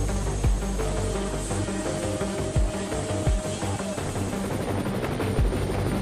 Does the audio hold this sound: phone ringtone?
no